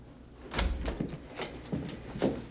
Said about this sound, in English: Later in the hall, Mulder sits, leaning on his knees. He nibbles sunflower seeds. The hearing room door opens.